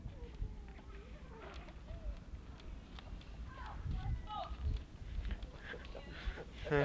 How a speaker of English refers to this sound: Goat. No, it's the goats